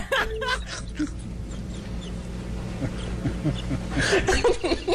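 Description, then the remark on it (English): A dog's squeaky toy squeaks in a few sharp, high bursts, one at the start and a cluster near the end, with a low hum and faint background noise in between. “It's a dog squeaking toy.”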